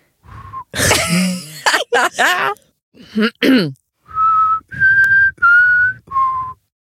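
Someone whistles a short tune: a brief opening note, then a burst of throat-clearing and breathy noises, followed by four clear, sustained whistled notes in a simple melody.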